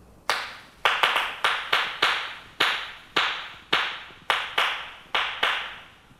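Flamenco palmas of the bulerías, made by clapping one hand firmly against the other: more than a dozen firm, sharp hand claps in a lively, syncopated pattern, with some quick double claps. Each clap is crisp and bright and rings briefly, with no voices.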